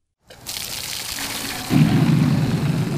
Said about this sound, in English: Outside Kingswood Elementary in Cary, a teacher tells onlookers to step back as water comes gushing out of the pump. A couple of students collect some of it into watering cans.